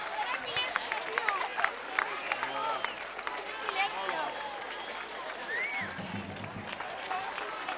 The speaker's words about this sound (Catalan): Escoltin l'aplaudiment que el públic adreça als Trampera Nostramo.